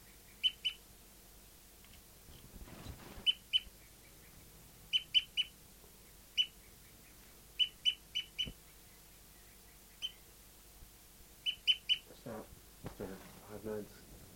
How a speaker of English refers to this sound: Slowing down tooping now and approaching the other birds.